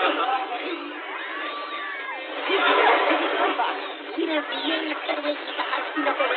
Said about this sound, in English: Lyman, halt. Go back to the beginning of the transmission, but this time remove the sounds of the panicking crowd.